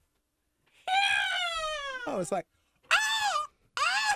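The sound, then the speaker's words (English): A person imitates a screaming bald eagle's screech: one long, loud, wavering cry that slides downward, followed by two shorter shrill shrieks with brief pauses between. “It's a screaming eagle.”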